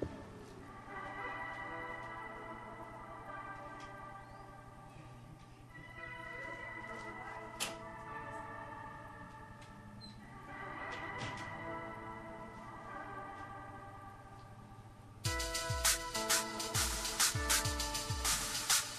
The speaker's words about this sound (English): The mailman, or mailwoman, I guess. Mail person is trying to shove an envelope with a double CD through the mail slot, and it just a little bit too big.